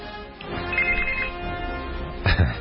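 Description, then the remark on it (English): A telephone rings steadily at moderate loudness during a live radio broadcast, its electronic tone sustained across the whole moment, with a brief louder bump near the end and no talking over it. “My phone is ringing while I'm on the air.”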